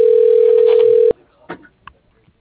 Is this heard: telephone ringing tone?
yes